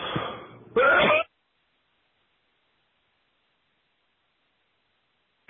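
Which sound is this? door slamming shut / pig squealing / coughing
coughing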